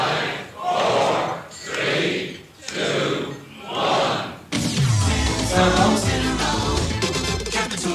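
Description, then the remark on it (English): A large crowd at the Barclay Court Hotel in Dublin roars at 8 o'clock in the morning as a new radio station goes on air, in four loud rising-and-falling swells, then breaks into a dense, continuous wall of cheering and shouting that stays loud to the end. “the champagne glasses clinked, the crowds roared, and Capital Radio went on air”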